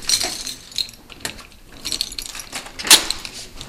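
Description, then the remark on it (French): Metal keys jangle and scrape in the lock of prison cell door number 1, a run of bright, clinking rattles ending in a sharper metallic clack near the end. No one speaks. “je vais ouvrir la cellule de porte numéro 1, à la 2024.”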